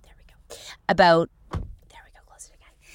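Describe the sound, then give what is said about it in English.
A door opens with a short tonal creak followed by a dull thunk, amid soft whispery rustling and breathy noise. “hold on, I have to open the door for a second.”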